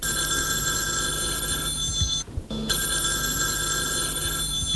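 telephone bell ringing

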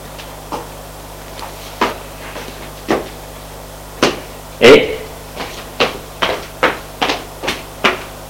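door being closed

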